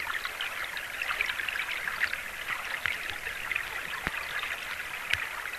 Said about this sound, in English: If you have a flowing river, it's the little stones and the little sand in the creek bed that just go flowing with the water, and that actually makes a nice sound. It's actually the rocks, the gravel, the sand that gets washed down a creek.